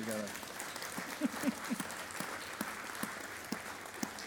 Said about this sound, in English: You know what? Let's go ahead and clap.